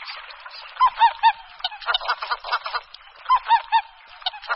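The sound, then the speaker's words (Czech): Greater white-fronted geese calling from a flock: high, yelping honks come in quick groups of three, repeated twice over a steady babble of overlapping calls, clear. “Husa běločilá má hlas výrazně odlišný od hlasu husy polní.”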